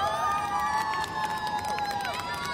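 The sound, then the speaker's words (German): A crowd in a hall at a martial arts competition cheers loudly and steadily, a dense roar of many voices with higher shouts and sustained calls rising above it throughout. “Jubel brach aus.”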